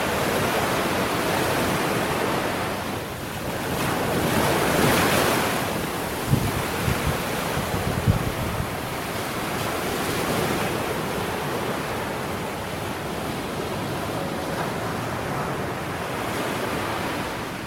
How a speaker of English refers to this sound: I mean, we have the waves coming in right now. That was a big one. But yes, the Pacific Ocean crashing into the coast of Hawaii.